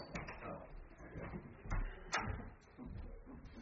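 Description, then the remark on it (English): A door is pushed shut, giving two quick muffled thuds close together over a low, rumbling background of handling noise and faint movement. “I think we need to maybe close that other door.”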